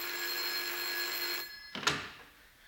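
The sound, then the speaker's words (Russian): A telephone bell rings steadily with a bright, sustained metallic tone in an office reception, then cuts off abruptly, followed by a brief clatter as a secretary picks up the receiver. “Девушка-секретарша, пробегая в очередной раз мимо телефонного столика, машинально схватила какую-то трубку.”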